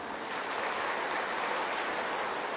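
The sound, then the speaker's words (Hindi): An audience claps together for a birthday clap at a Shiv Jayanti celebration, a dense, steady wash of applause, many hands blending into a continuous hiss that holds an even loudness for a couple of seconds, with no voices heard. “बाबा का भी जन्म, साथ साथ हम सब का भी जन्म, तो अपने जन्मदिन की भी ताली बजा लें।”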